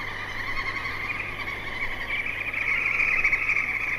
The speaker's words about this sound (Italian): Sono degli uccelli tropicali, naturalmente, che preannunciano l'arrivo di un temporale.